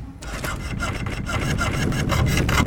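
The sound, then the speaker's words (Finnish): Steady hand sawing on metal by boys at work in fine weather, with roughly ten quick rasping strokes in a brisk back-and-forth rhythm, fairly loud against a low background rumble and no voices. “Te sahaatte jotakin metallia siihen.”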